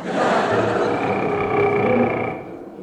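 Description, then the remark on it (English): A human voice imitates a tiger's roar, one long, loud, rough growl with a strained tonal edge that holds for nearly three seconds before tailing off. “That's a cannibal doing an impression of a tiger.”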